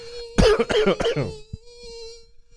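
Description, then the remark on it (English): A thin, steady mosquito whine hums for the whole stretch, briefly overlapped by a burst of coughing or throat-clearing near the start, then continuing alone with faint rustles. “can you swat that fucking mosquito?”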